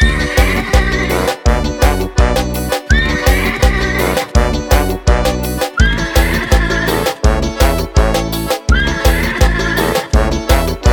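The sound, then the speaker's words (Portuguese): A loud, upbeat piseiro dance track with a pounding bass beat, where a whinnying horse-neigh effect rises out of the mix several times in rhythm, like a melodic solo riff. “Ó o solinho do cavalo doido.”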